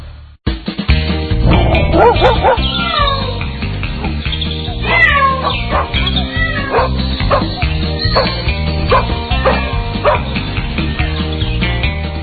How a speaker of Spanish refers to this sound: Ya están nuestros perritos, nuestros gatos dando saltos por el estudio porque llega la cita semanal con nuestros queridos amigos veterinarios para hablar de los problemas de nuestras mascotas fundamentalmente.